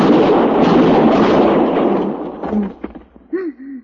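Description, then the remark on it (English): A single loud revolver shot, a sound effect played from a Mackenzie machine for a show, rings out and its rumbling echo slowly fades over about two seconds, followed by a few brief snatches of voice at the end. “So we had on a Mackenzie machine, I think the boys called it in those days, we had Matt's gun, and we always used a 45 for Matt, and for the other heavies there would be a 38 or a 32.”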